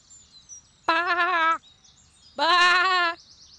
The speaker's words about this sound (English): Oh, a goat. Wait a minute. It isn't a goat. It's a boy.